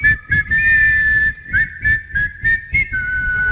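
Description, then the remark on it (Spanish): A group in the Tiempo de Juego radio studio whistles a steady tune in unison, loud, after a count of one, two, three, while a regular pulse of percussive thumps keeps time underneath. No one speaks. “A ver, ¿quién silba bien aquí en Tiempo de Juego?”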